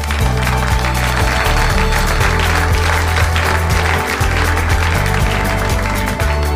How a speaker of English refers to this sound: Thank you for that completely spontaneous applause. I really appreciate it.